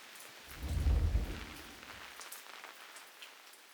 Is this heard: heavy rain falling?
yes